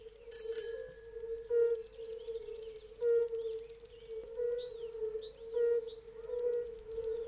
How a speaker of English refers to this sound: But then we've got the red-bellied toad here as well. I know that just because it's such a peculiar sound that you can hear when cycling along the dike.